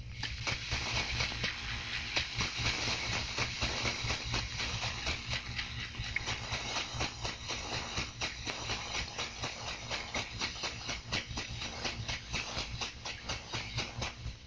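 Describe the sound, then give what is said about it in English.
A tanker's slow propeller beat heard underwater, the tanker 500 yards away going 10 knots: a steady, rhythmic churning pulse repeating evenly through a constant hiss and low rumble, fairly loud and unchanging from start to finish, with no voices. “Tankers and freighters usually have a comparatively slow prop beat, and you may even hear their engines.”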